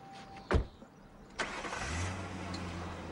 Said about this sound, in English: They watch as Jay drives off.